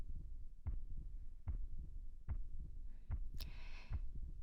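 heartbeat

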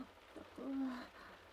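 heavy rain falling

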